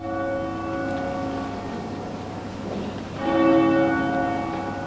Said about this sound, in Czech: Stajali su tiho dok su crkvena zvona odzvanjala 15 puta za svaku godinu koja je prošla od napada.